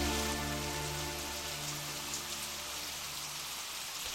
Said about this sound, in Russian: Шум ливня и раскаты грома совершенно заглушили рокот моторов двух автомобилей, подъехавших со стороны Харлоу.